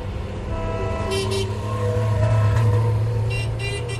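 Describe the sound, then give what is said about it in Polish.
An old Polish Syrena car's engine drones steadily while driving along a motorway during a European rally, with horn toots and brief whooshes of passing traffic. “Po raz pierwszy w historii europejskich rajdów, a może po raz pierwszy w historii w ogóle, polską syrenkę na autostradzie zatrzymuje holenderska policja.”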